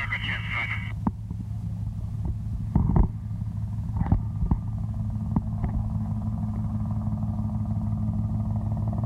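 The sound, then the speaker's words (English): A helicopter with its landing light on, coming in overhead, gives a steady, low, droning engine hum at a fairly even level throughout, with a few short clicks and thumps breaking in over the rumble. “This is the helicopter now coming in.”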